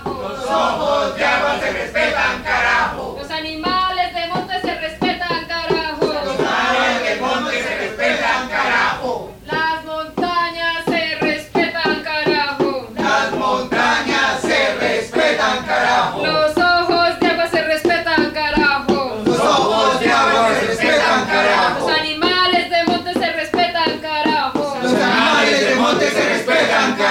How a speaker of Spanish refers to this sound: Justo antes de las 4 de la tarde, hora de inicio de la sesión, la comitiva de defensores de las montañas hace su arribo al recinto de la asamblea gritando consignas.